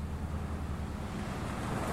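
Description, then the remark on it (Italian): Steady splashing water and surf with a deep, rumbling undertone as a flying super camper slowly settles onto the water of the Darsena in Milan; the wash stays loud and even throughout with no voices. “Il super camper scese lentamente e si posò sull'acqua.”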